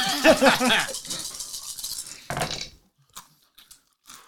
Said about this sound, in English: And I'll be rolling 11 dice, and I'm just trying to...